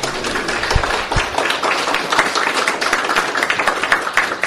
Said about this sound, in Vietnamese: Xin được chúng ta cho một tràng pháo tay thật lớn.